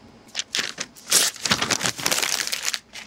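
Paper is crumpled up, a dense run of crackling, crinkling bursts that rises and falls irregularly for about three seconds, with no voices.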